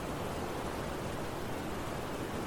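The Qizil Ozan river in Iran roars in a steady, unbroken rush of water, loud, with a dense hiss across the whole range and no voices.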